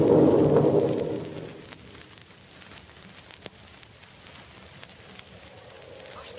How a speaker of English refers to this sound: Gee, look at that rain come. What? It's a regular cloud burst. Yes, it's a mad tropical storm